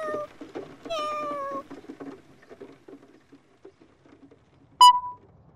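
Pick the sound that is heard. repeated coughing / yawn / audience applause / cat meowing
cat meowing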